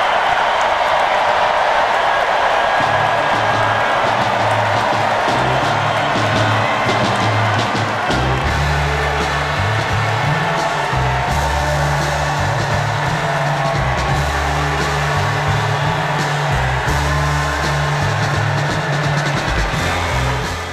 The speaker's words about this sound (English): And the crowd enthused. This raucous crowd at the DNC, at the United Center. They're loving them, Kamala Harris.